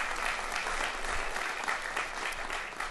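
Steady applause from an audience, a dense wash of many hands clapping at an even level for a few seconds with no voices standing out.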